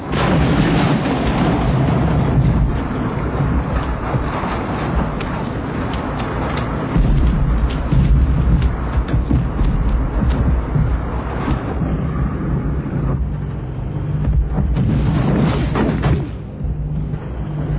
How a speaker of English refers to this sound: Danny, this flak, it's not like I expected. Can the captain fly above it or something? We've got to fly straight through it or we'll be off target.